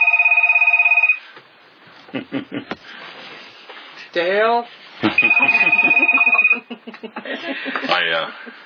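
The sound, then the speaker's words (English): A telephone rings with a steady electronic tone, once at the start and again midway, each lasting about a second, with a person speaking in between and afterward. “I've been having trouble with my phone.”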